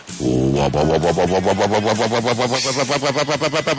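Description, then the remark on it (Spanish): A man's voice imitates the engine of a Fiat Polski car, a loud buzzing drone that sputters in rapid, regular pulses and quickens slightly toward the end, with no other talk. “Así suena el Fiat Polski.”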